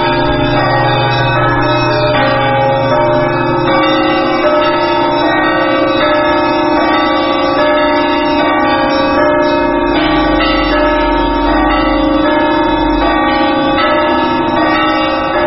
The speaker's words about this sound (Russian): А маленькие колокола не одного комплекта. Подбирались просто по тонам с разных храмов. У них были колокола незадействованные. И мы 20 лет назад почти подбирали просто вот их по тону и собрали, чтобы были созвучны.